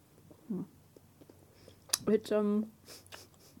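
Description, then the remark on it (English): Quiet chewing of a very chewy, sticky candy, with soft wet smacks and a few sharp mouth clicks, followed by a brief muffled hum from the person chewing. “Oh god, it's so chewy. It's really hard to chew.”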